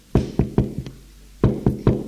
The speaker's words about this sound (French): Trois heures plus tard, l'on frappe à la porte de son bureau.